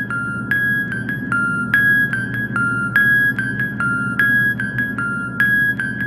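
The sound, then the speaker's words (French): Dozens of telephones hung from the ceiling by their cords, used as an instrument, ring together in a rhythmic, tinkling pattern, forming a repeating chiming melody over a steady metallic hum. Fairly loud, with no voices. “Des dizaines de téléphones pendus au plafond par leur fil. Un peu comme un mobile.”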